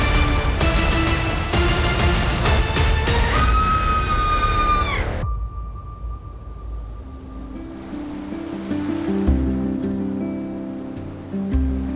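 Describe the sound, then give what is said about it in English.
Loud, roaring ocean waves crash for the first few seconds, then give way to a softer, steady wash of surf with a low rumble underneath. “High above the crashing waves and definitely not shark-infested waters.”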